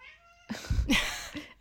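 animal, cat meowing

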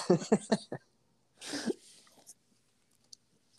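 human body sound, sneeze

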